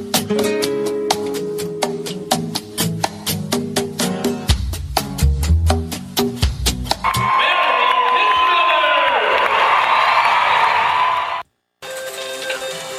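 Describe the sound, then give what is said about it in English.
Upbeat music plays for several seconds, then a loud crowd at the National Finals Rodeo in Las Vegas erupts in sustained cheering and whooping, cutting out abruptly for a moment before the roar resumes. “Well, are you tired of that sound yet, Mary?”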